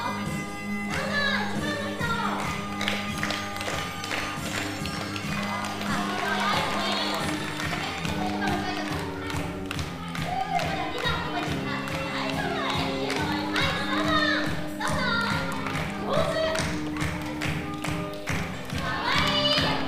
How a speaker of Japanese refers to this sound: ミュージカルの最後に出演者たちが出てきて一人ずつお辞儀をする、拍手が鳴り止まない興奮の瞬間です。子どもたちも一人ずつ音楽に合わせて舞台の袖から中央に出てきて思い思いのポーズで挨拶しました。